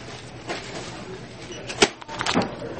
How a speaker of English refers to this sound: I'm so mad at my receipt printer right now. Oh, it's still being wonky. Of course.